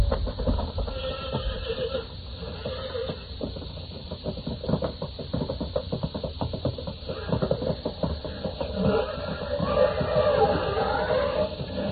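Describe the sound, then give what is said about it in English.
Horses, one of them named Thunderhead, squeal and whinny amid a chaotic fight, with thudding hooves and harsh, agitated cries layered over a dense, rumbling background, loud throughout. “Get him, Thunderhead! Get him, boy! His horse!”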